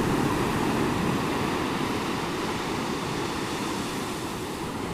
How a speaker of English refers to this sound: As I watch the waves roll in, I'm sure, as you've already surmised, not one is identical to the other. They're everyone different. They develop differently, they roll in differently, they fall differently.